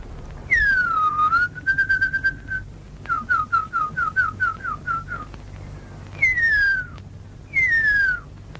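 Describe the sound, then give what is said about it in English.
A Maori tracker whistles an imitation of the call of the huia, an extinct New Zealand bird: clear descending glides, a held tone, then a quick run of short chirping notes, ending with two more falling whistles. “This is a Maori tracker whistling the call of the huia, a New Zealand bird that went extinct from overhunting and habitat loss in the 20th century.”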